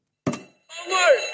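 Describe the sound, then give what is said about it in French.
A soft knock as a small phone lock box, holding phones and set with a timer, is opened, then a loud electronic alarm starts at once, a shrill warbling, sweeping tone that keeps sounding. “Et si vous l'ouvrez...”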